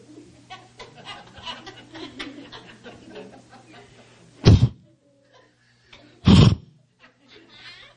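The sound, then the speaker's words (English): Two loud, breathy bursts of a human voice mimicking a horse's affectionate snort or nicker, each about half a second, following a stretch of soft murmuring and chatter with a steady low hum underneath. “That's a horse. Giving me love.”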